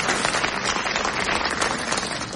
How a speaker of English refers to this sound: A round of applause, he's absolutely right.